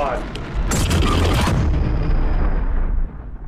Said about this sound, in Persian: آیا او برای ساخت اوپنهایمر دست به یک انفجار واقعی زده، چیزی شبیه به یک انفجار هسته‌ای.